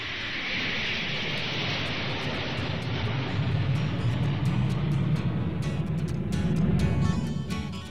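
A loud, steady roar of airplane engines swells as the plane powers up for takeoff, a dense rushing rumble with a faint high whine and no voices.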